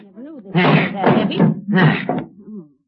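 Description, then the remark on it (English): A heavy table thumps and scrapes loudly in bursts as it is lifted and moved in front of a door, while voices murmur and strain over the noise. “Move that table in front of the door”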